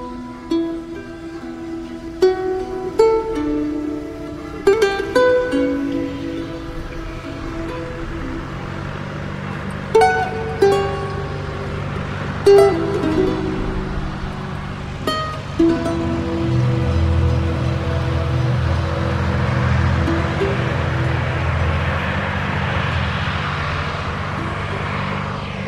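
A huge agricultural machine's engine drones steadily among the rows of vines in a vineyard at Listrac-Médoc, its low roar building and swelling like an aircraft taking off, with intermittent clanks and tonal bursts over the continuous rumble.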